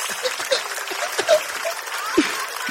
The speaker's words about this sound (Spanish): Hermano, hoy día contamos con uno de los mejores públicos que hemos tenido. Un fuerte aplauso al público. Y que siga ese aplauso, porque esto es Tengo Algo Que Decirte.